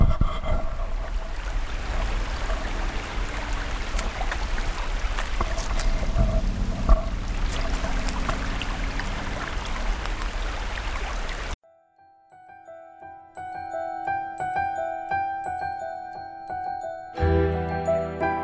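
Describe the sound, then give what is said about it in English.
Creek water rushes and burbles steadily for about eleven seconds, recorded with a shotgun microphone pointed at the creek, with no voices, then cuts off abruptly and gentle tonal music takes over. “I'm going to point the shotgun microphone at the creek so you can possibly hear it, and then I'll switch off.”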